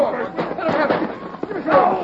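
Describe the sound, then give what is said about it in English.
Several sharp, loud gunshots crack out at irregular intervals in a shootout, mixed in with excited shouting voices and a busy, chaotic background. “Shoot him. Shoot him. Let him have it.”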